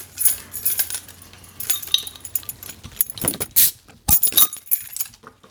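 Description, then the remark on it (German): Metal and glass clink and rattle as a bottle opener works on a bottle of Sternburg beer, ending in a few sharp, bright snaps of the cap coming off. No one speaks. “Krieg ich mal einen Flaschenöffner?”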